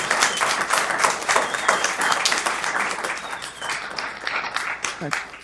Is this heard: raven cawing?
no